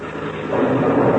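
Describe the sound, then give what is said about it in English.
A blue-wing plane taking off: a steady, broad engine roar with a deep rumbling low end that swells louder over about a second, with no voices. “It sounds like that blue wing plane is taking off.”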